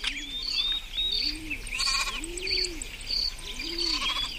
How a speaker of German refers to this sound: Es dauerte nicht lange, da blieb der Hirte auf einmal stehen. Er schaute aufmerksam in eine Richtung, aus der immer deutlicher ein ängstliches Schaf zu hören war.